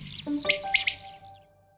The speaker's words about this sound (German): Also wir sitzen als Anwohner öfter hinten mal an den Wiesen und wundern uns dann immer wirklich, jeder nimmt sein Handy, was ist denn das jetzt für ein Vogel, haben wir hier noch nie gehört. Echt schön.